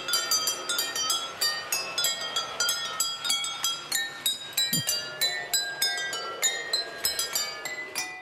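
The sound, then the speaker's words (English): Rapid, bright glass clinks ring out in a steady rhythm, forming a tinkling tune as a miniature train set taps water-filled glasses one after another in a miniature museum in Hamburg, Germany, clear with a faint rumble underneath. “That music was played by a miniature train set hitting against glasses filled with water.”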